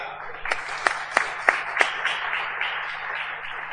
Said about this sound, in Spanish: Vamos a dar un aplauso